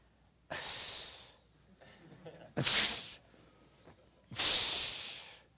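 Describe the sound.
A person imitates a disgusted hiss three times to demonstrate the hissing mentioned in a Bible passage, each a loud, breathy, high-pitched burst lasting about a second, separated by short pauses with faint breath and mouth noises.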